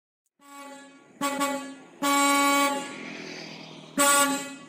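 A bus horn sounds loudly as the bus arrives: a steady honking tone that swells with three sharper, louder blasts, with no one talking.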